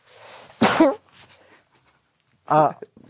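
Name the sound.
a person sneezing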